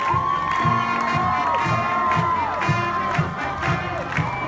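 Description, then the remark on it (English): A large crowd, with six high school cheer squads and the Atwater High School Band, cheers and shouts continuously to welcome veterans home off a plane in California's Central Valley. Loud high-pitched voices and whoops are layered over a steady roar, with rhythmic low thumps like drums pulsing underneath. “And when they landed back in California a couple days after they left, six high school cheer squads, the Atwater High School Band, and a spirited crowd welcomed them home.”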